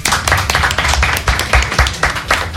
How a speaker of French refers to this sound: On n'a pas applaudi les personnes qui nous accueillent aujourd'hui pour cette deuxième émission spéciale. C'est le Black Pit. Merci à vous.